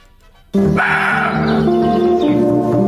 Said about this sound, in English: A deer? A roe deer.